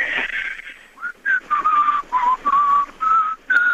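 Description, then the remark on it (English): Someone whistles a short, halting tune to call a bird, a string of separate clear notes with brief gaps, opening with a breathy, airy blow before the pitched notes settle in. “Like, you got to whistle a tune.”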